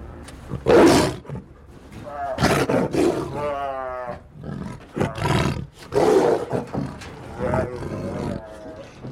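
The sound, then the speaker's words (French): A caged big cat roars repeatedly in loud, harsh bursts, deep rumbling calls rising into raspy, groaning tones with short pauses between them. “Ce cri est terrible, là, parce que souvent...”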